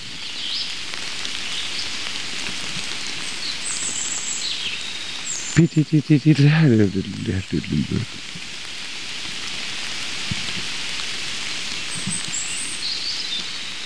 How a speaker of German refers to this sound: Also, Baum des Jahreswald, da klingt Wasser so auf den mit Blättern bedeckten Waldboden, da diese Blätter sich schlecht zersetzen.